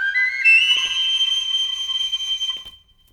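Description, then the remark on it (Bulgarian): A single long, shrill whistle blast that slides up briefly at the start, then holds a steady piercing tone for nearly three seconds before cutting off. Loud, with no talking. “Чакай само да си извадя свирката.”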